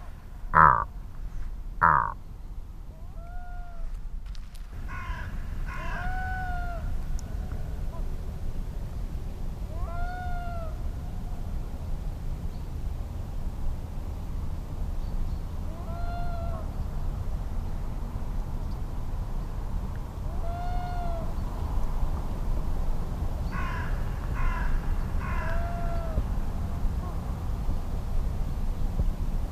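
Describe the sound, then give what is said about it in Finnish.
Calls of two black-throated loons drift across the water of Luhtlampi pond at about 30 metres, as they come out of the morning mist: a series of short, rising-and-falling wailing notes repeated every few seconds, over a steady low outdoor hum after a few sharp knocks at the start. “Enää ei tarvi saada kuin linnut ääneen.”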